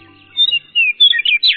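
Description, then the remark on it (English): A western meadowlark sings on the eastern slope of the Cascade Mountains in Washington. Its bright, fluting song has several clear whistled phrases that slide and warble and ends in a quick jumbled flourish, loud with no talking. “The song of a western meadowlark rings out across the eastern slope of Washington's Cascade Mountains.”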